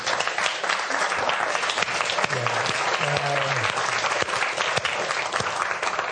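An audience claps steadily for several seconds, a dense, even patter of many hands at a fairly loud level, with a faint murmur of voices underneath.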